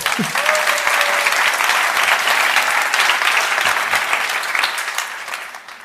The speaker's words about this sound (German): Erstmal nochmal ein Applaus für Onkel Bernie.